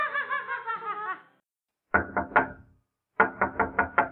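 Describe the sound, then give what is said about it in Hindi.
A short, high giggling laugh fades out, then comes knocking on a door as someone arrives: a quick set of three sharp raps, a pause, and a louder run of five crisp knocks. “अब ये दरवाजे पे कौन आ गया?”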